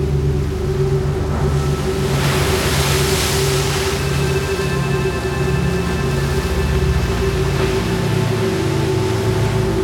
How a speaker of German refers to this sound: Gönn dir eine Pause und lausche den Wellen, die wohl sich langsam bewegen.